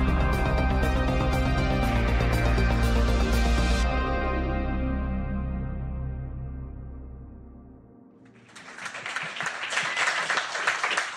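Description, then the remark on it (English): Music plays and slowly fades out, then a young audience bursts into steady, loud applause that fills the last few seconds with dense clapping and no voices. “A great crowd. They're ready.”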